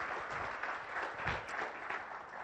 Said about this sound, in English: And if you only come to church, yeah, you can clap for them. That's great.